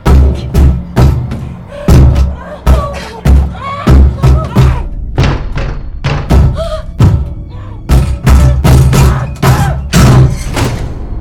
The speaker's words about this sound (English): In the cadaver drawer, Megan sits up and repeatedly kicks the door.